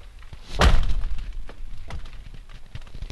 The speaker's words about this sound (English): The lake drums, which is this incredibly loud, booming drum sound.